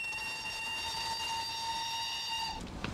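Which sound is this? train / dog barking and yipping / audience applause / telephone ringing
train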